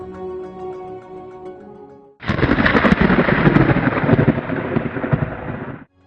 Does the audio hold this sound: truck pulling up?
no